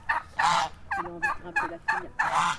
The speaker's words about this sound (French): Dans l'arrière-cour d'une maison traditionnelle, au milieu des oies, des dindes, d'une dizaine de chiots nés la veille, 4 chevaux sont bichonnés par le palefrenier